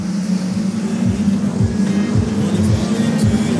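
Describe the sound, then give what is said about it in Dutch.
Loud, continuous engine roar of race cars on a track, a steady low droning hum with slight wavering pitch as the cars run, no voices heard. “Alle auto's nog in de baan en dat is fijn.”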